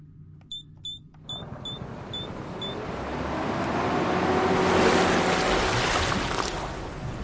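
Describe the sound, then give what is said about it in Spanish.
An invented vehicle churns steadily underwater, a broad rushing hum that swells toward the middle, opening with a short run of quick, high electronic beeps that fade out. “¡Vamos súper bien por debajo del agua!”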